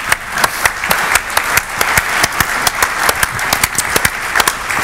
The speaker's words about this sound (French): c'était une belle démonstration, je pense que vous pouvez l'applaudir, parce que derrière, monter ça, c'est pas facile.